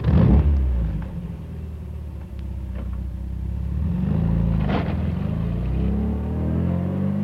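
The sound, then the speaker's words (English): A red sports car engine growls loudly with a deep rumble, revving up and swelling as it passes the end of a lane midway, then holding a steady throaty drone. No one speaks. “It's passing the end of the lane. It's in front of us now.”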